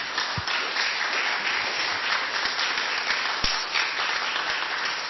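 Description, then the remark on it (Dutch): An audience applauds steadily in thanks before the break at an evening event, a dense wash of many hands clapping at an even loudness for several seconds, with a few sharper individual claps standing out. “Misschien wel met een ontzettend applaus.”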